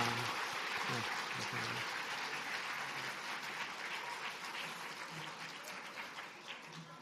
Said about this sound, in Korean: 네, 우리 다시 한번 우리 어린 친구들, 우리 선생님들, 우리 감사의 마음 박수 한번 하겠습니다.